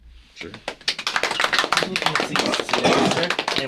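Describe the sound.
A thin, scattered round of applause from a small group, irregular sharp claps that start sparse and fill in a little over a few seconds, with faint voices mixed underneath.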